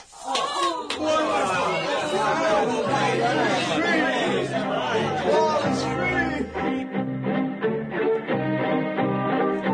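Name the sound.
crowd cheering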